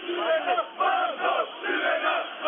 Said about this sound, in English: The faraway sound of chanting from the back of the crowd was the best indication of how many people were there.